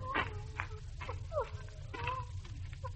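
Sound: dog whining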